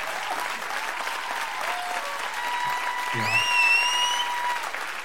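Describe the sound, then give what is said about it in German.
An audience applauds steadily after a song performance, a dense wash of clapping that swells slightly toward the end, with a brief voice and some whistle-like tones cutting through near the close. “ein Applaus jetzt bitte.”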